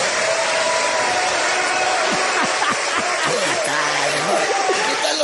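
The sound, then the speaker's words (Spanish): Steady, dense applause from an audience, requested for Andrés Manuel López Obrador, fills the whole stretch, loud and continuous, with faint voices and murmurs mixed into the clapping. “La inició el peor presidente que ha tenido México, que se llama Andrés Manuel López Obrador, a quien pediría un fuerte aplauso.”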